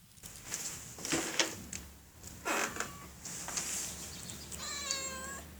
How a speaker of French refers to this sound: Ici, on ne miaule pas.